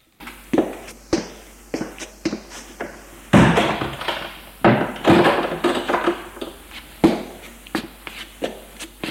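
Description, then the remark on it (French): Footsteps and light wooden knocks as people enter, then a door pushed shut with a solid thud, followed by more shuffling steps and a few sharp taps. No one speaks. “Ils entrent et ils ferment la porte.”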